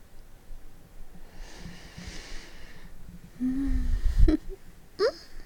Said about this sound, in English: Oh, I love hearing you gasp as it enters.